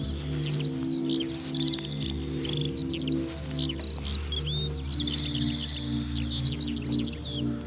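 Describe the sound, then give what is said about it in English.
A Eurasian skylark sings a continuous, rapid stream of high chirps and trills throughout, fairly clear and steady, over a low constant droning hum in the background. “And there you hear the song of the Eurasian skylark.”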